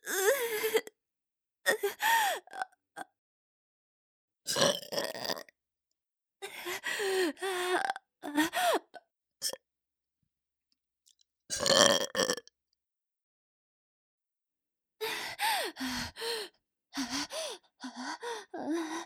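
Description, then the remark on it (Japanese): A long series of loud, close burps, each a short croaking belch, coming in irregular bursts separated by brief silent pauses, with no speech around them. “ロゲップ臭い。”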